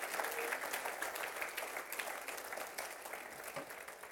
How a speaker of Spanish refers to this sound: Tenemos victoria en Cristo Jesús. Dele un fuerte aplauso al Señor. Allá usted, dele un fuerte aplauso.